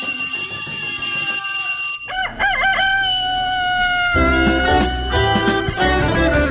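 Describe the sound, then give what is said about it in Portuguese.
A rooster crows loudly at 5:54 in the morning, its long wavering call rising and falling, layered over a steady musical background that swells louder partway through. No one speaks. “E olha, do galo vou cantar, hein, gente?”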